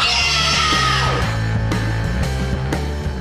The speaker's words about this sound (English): Maybe that's why screaming feels so fucking good.